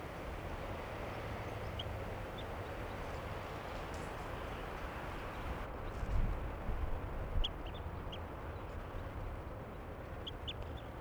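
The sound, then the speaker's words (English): Low, throaty bird calls break through a steady wash of background noise, a short cluster of deep croaks around the middle, with faint high chirps scattered above. “That's really that low call there.”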